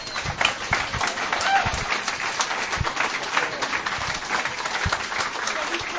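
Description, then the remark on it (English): An audience applauds themselves steadily for several seconds at an annual weekend gathering, a dense wash of many hands clapping at an even, fairly loud level, with scattered low thumps mixed in. “I want you to give yourselves one big round of applause, please.”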